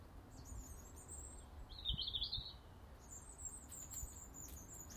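blackbird singing

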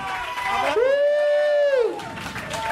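applause and cheering

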